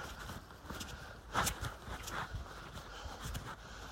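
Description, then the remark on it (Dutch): Footsteps crunch and thud along an uneven woodland path over the roots of Scots pine trees, a steady walking rhythm of soft irregular steps, quiet, with no talking. “Kijk, dan lopen we over de wortels van allemaal grove dennen.”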